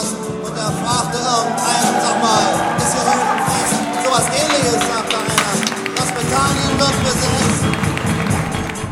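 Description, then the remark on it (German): A dense, loud crowd noise fills the whole stretch, many voices overlapping in a steady roar with bursts of cheering and movement, continuous throughout, as a squatters' assembly cheers the announced re-occupation of a former police station at Münzgasse 13 while the squatters' anthem plays. “unter dem Jubel der Anwesenden die erneute Besetzung.”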